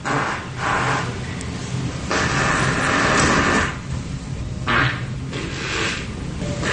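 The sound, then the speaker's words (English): A series of loud, raspy farts ring out in a hotel lobby near the front desk, made by a man sitting down again and again for a video. Each burst trails into an echo. Several come in uneven lengths, one drawn out for over a second, with no talking. “he discovered that there was good acoustics around the lobby and the front desk”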